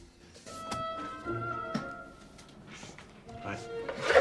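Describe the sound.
An office door swings shut with a short, solid thunk as a woman closes it, followed by a second knock-like bump, heard over a steady bed of sustained musical tones and some faint voices.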